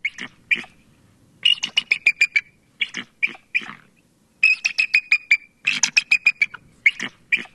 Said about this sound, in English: Here's the bald eagle from the listening cone of What is Missing.